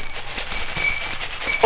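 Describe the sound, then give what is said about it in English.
A toy train rattles along with a steady mechanical clatter and a thin high whine, ending on a short rising whistle-like note. It is brief and moderately loud, with no one talking. “And trains that run for little boys.”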